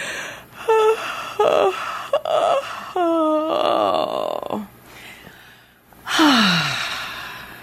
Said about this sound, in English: So, if you haven't guessed yet, that was a yawn. And a yawn is a form of spontaneous pranayama.